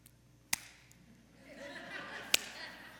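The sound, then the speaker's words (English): Two sharp, isolated hand claps about two seconds apart ring out over a low, murmuring room tone, as a few people in a church audience tentatively clap after a reading of Psalm 47, "Clap your hands, all you nations." “Clap our hands? Yeah, I see some of you out there.”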